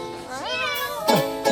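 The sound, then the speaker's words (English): A single drawn-out cat meow, rising then sliding down in pitch, fairly loud, followed by two short breathy bursts. “In the recording, there's cat sounds.”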